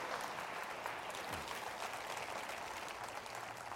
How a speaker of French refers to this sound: Quelqu'un devrait dire amen et applaudir le cœur de Dieu.